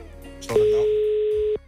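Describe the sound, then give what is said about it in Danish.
A single steady phone ringing tone as a call is placed to an unknown person, a flat one-second beep heard over a telephone line, fairly loud and clear, with faint low background noise before and after. “Så nu ringer vi til en.”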